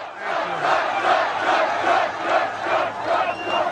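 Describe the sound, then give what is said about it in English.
A large crowd at a Donald Trump rally in Wisconsin roars and cheers continuously, a dense, loud wash of many voices rising and falling in waves, with no single speaker standing out. “What a crowd this is.”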